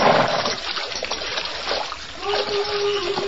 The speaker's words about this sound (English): Well, we're in luck. There's water here. It's running water, too. Good and cold.